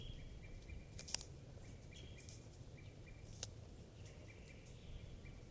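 Faint wild birds call in trees, with two sharp chirps standing out over a steady, quiet outdoor background hum and a soft repeating high trill.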